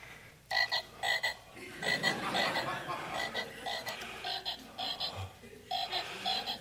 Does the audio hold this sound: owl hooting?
no